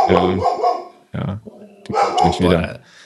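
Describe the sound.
A dog barks and growls in loud, harmonic bursts at a mail carrier, with a short pause between volleys and some voices mixed in.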